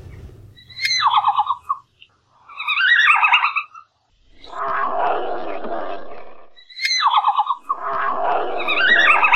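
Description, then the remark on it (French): A red panda calls in a series of loud, high-pitched twittering squeals, the bursts repeating with short pauses and alternating with longer, raspier stretches. No voices accompany it. “Voici un petit extrait du cri du panda roux.”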